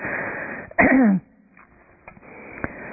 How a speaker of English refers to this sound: That was so hard because I had to cough for the last minute, and I thought, I can't cough because I have a microphone. How do I turn this thing off?